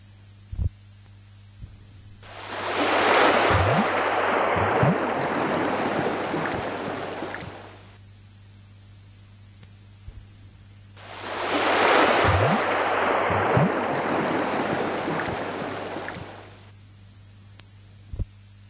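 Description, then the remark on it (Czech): Two slow, broad swells of ocean wash rise and fade about eight seconds apart, waves rolling past a ship sailing alone in the middle of open water, over a steady low hum with occasional soft thuds. “Týden později, kdy loď již plula osamělá uprostřed nekonečných vod.”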